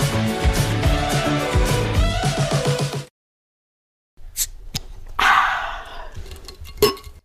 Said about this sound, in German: Das war ein Sound, ey. Das Problem ist, die Gläser und die Flaschen sind noch zu voll. Aber cheers. Cheers.